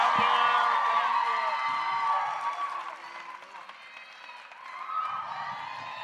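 A live show audience breaks into sustained applause mixed with cheers and whoops, a dense wash of clapping that stays loud throughout, easing slightly in the middle before swelling again near the end.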